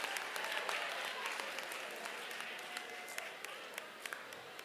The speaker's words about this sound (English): How many of y'all would take a bullet for your mama? Raise your hand. Give your mama a hand. Give your mama applause.